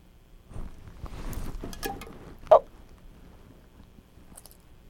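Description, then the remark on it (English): Irregular chewing and gnawing as a child chews on a set of keys, with small metallic clicks and squishy mouth sounds, one sharper clink standing out near the middle, then quieter fiddling noises toward the end. “Keys. Must you eat everything?”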